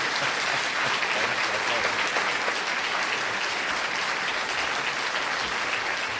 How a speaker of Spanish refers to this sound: este breve aplauso es para el alcalde de Burgos que acaba de llegar.